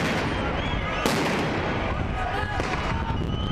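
impact, explosions

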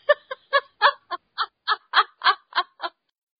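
animal, chicken clucking

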